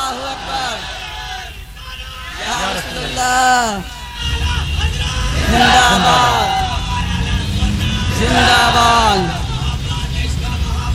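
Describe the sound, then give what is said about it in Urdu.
A crowd in Bombay chants a slogan in loud, repeated bursts of many voices shouting together, with a steady rumble of crowd noise filling the gaps between each call. “توجہ ہے, ارے توجہ ہے, ایک نعرہ ایسا لگاؤ ذرا بمبئی میں گونج پیدا ہو جائے اور بریلی شریف تک آواز پہنچے.”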